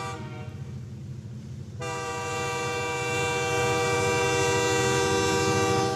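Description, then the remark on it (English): A train rumbles steadily along as its horn blares in, a loud sustained blast that holds and grows over the low rolling noise of the rails. No one speaks. “So right now, let's go get that train out there.”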